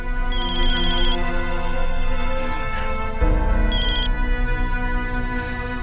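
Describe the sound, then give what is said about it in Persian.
A mobile phone ringtone plays loudly and up close, a bright synthetic melody with repeating chime-like bursts over a sustained backing tone, continuing for several seconds with no one speaking. “گوشی موبایل باران.”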